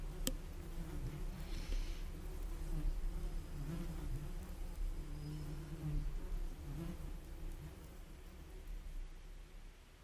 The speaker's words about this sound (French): J'entends les bruits d'abeilles.